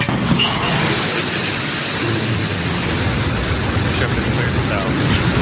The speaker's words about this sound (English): Blue Origin's New Shepard rocket blasting off on its way to space with 4 passengers on board